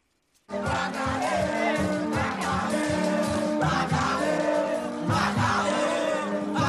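High school students protesting in the street in metropolitan Port-au-Prince, Haiti, on 26 May 2023, demanding teachers in classrooms, shouting and chanting together: a dense, continuous wall of voices with rhythmic surges, starting abruptly and staying steady throughout.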